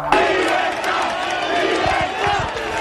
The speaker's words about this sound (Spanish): Y allí cientos de personas les han recibido al grito de libertad, libertad.